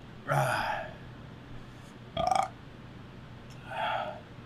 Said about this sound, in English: I just keep burping.